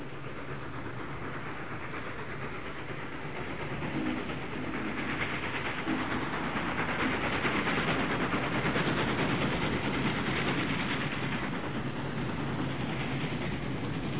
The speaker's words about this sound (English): Did y'all hear that train coming? Did you hear the train coming?